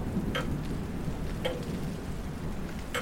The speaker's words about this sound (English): There's a storm on? A hurricane? Nick said it was called Hecate. Which is to say, you probably shouldn't be up here. These windows could shatter.